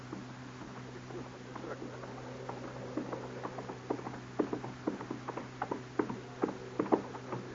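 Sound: horse hooves approaching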